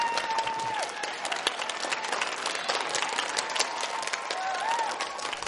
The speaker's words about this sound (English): Guys, give him a round of applause, and that'll do it from inside the hall.